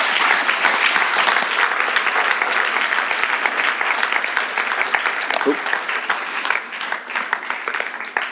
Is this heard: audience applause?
yes